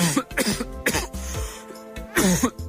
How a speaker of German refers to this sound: Wenn man fies erkältet ist, dann kann so ein Husten richtig wehtun. Und ich finde, diesem Mann hört man das auch echt schon an.